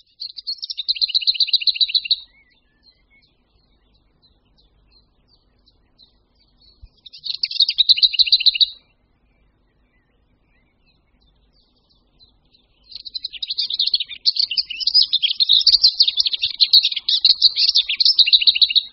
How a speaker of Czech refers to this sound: Když se v druhé polovině dubna ozve skřoví v městských parcích nebo na okrajích lesů poměrně jednotvárný, ale přesto libozvučný tlukot pěnice pokřovní, je to další známka, že jaro už je definitivně tady.